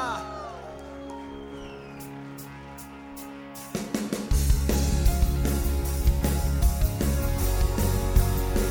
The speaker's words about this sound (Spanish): ¿Quién le puede dar un grito de adoración a Cristo esta mañana?